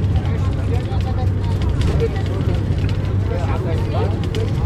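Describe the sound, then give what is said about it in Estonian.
Steady low engine rumble and road drone inside a moving local bus travelling to Aksum, Ethiopia, with a constant hum under a person talking. “Aga jah, sinna Aksumisse me oleme teil praegu selle kohaliku bussiga ja meie raamat ütles veel, et see üks esimene osa, mida me praegu läbime, on meil lihtne.”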